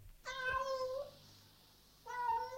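A cat meows twice, a long, drawn-out, whiny cry followed by a brief pause and then a second meow that starts loud and continues to the end. No one speaks.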